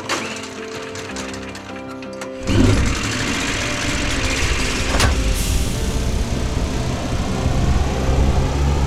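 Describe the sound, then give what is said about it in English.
The engine of an electric ship kicks in abruptly after a few seconds of quieter tonal hum, then runs loud and steady with a dense mechanical roar and rattle, without speech. “Now it's time to start the engine!”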